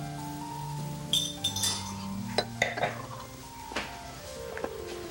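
Wine glasses clink and tap against each other several times at irregular intervals as they are handled during a wine tasting, one holding white wine. The knocks ring brightly over a faint, steady background hum.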